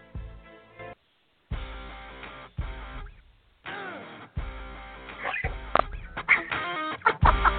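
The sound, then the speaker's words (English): A pet bird perched on a person's shoulder lets out a series of short, sharp chirps and squawks, with a brief silent gap early on and the calls growing louder and more frequent toward the end. “I've got a bird on my shoulder, and I'm trying to keep him quiet, but he keeps throwing in a couple of chirps in there, just like that.”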